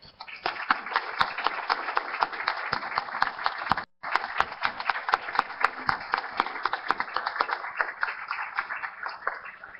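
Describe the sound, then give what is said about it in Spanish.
Sustained applause from a crowd, dense overlapping claps forming a steady loud wash, with a brief cut in the middle before the clapping resumes just as strongly, in recognition of teacher Hernando Bernal Alarcón, first rector of UNAD, as a library is named after him. “Para ello, les pido un reconocimiento a este insigne maestro con un gran aplauso.”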